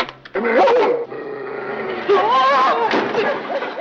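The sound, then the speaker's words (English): A big security guard dog that has sneaked on board barks and snarls loudly in two long, harsh bursts, its voice rising and falling, over a steady low hum in the background. “It's that security guard dog. He must have sneaked on board.”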